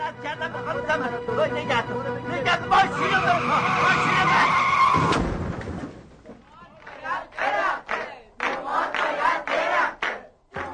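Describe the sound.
Car tires screech and skid loudly for several seconds as a car swerves while a passenger clings to the driver's neck and blocks his view, ending in a sudden thump; afterward people talk excitedly in the background.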